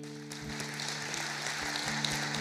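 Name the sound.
audience applauding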